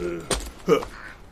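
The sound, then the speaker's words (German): Two short, sharp jackdaw calls a fraction of a second apart, each a hoarse "chak" standing out clearly against a faint outdoor background. “Ist das eine Krähe? Nein, eine Dohle.”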